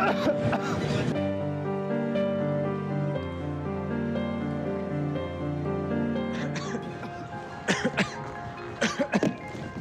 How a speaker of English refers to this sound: Yeah, it's coughing a little bit.